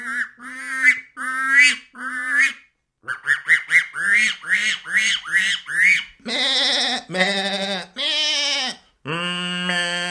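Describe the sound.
A man's voice imitates barnyard animals: bursts of rapid duck-like quacks and honks, then several long, wavering sheep-like bleats, loud and separated by brief pauses.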